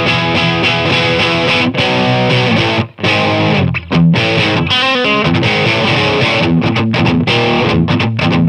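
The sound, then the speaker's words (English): A loud, dense electric guitar tone with gritty distortion and shimmering effects, boosted to drive a Jazz Chorus amp harder; strummed chords ringing continuously with a couple of brief breaks, no voices present. “So anyways, so I'm just actually slamming the amp a little bit harder with the arrows.”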